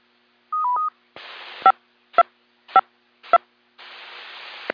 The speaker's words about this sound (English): I'll now return the repeater to normal amateur use and bring down the tones.